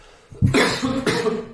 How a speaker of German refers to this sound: Ich muss kurz husten.